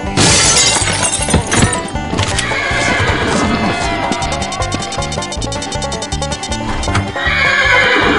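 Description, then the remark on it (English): Horses being rounded up neigh and whinny loudly while hooves clip-clop steadily, mixed with a sharp shattering crash and busy, dense background commotion. “Boss, we got all the horses rounded up.”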